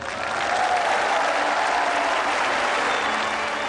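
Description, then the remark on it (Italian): Thunderous applause from a large crowd of the faithful as the portrait of the newly beatified John Henry Newman is unveiled at his beatification by Pope Benedict XVI, a dense, steady roar of many hands clapping at once that holds loud and even throughout, with no voices standing out. “Quindi è stato svelato il ritratto del nuovo beato accolto da uno scrosciante applauso dei fedeli.”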